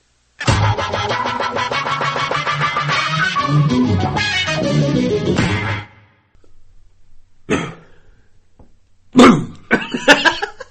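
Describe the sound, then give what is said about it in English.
A long, harsh fit of coughing runs for several seconds, then stops; after a pause, a few shorter, sharper coughs follow. “They wasn't supposed to get back into it by coughing.”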